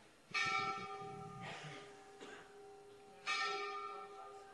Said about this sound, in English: Wait a second. The bell has to finish ringing.